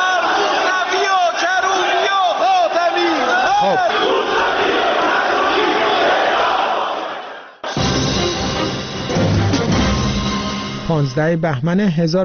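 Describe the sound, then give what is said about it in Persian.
A large group of members of parliament shouting slogans together in loud, rhythmic unison, voices rising and overlapping in an angry chant of death to Khatami, Mousavi and Karroubi, some calling for their execution, after a hardline speech by Gholamali Haddad-Adel against opposition leaders; after a brief cut, the chanting continues with individual shouts breaking through. “غلامعلی حداد عادل در نطق پیش از دستورش اظهارات تندی را علیه رهبران مخالفان بیان می‌کند و به دنبالش جمع زیادی از نمایندگان حاضر فریاد مرگ بر خاتمی، موسوی و کروبی سر می‌دهند و برخی نیز خواستار اعدام آنها می‌شوند.”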